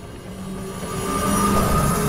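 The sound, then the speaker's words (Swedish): A car engine runs steadily with a low, droning rumble and faint higher whine, growing slightly louder partway through and holding level to the end, with no talking. “Det är faktiskt så den här bilen låter.”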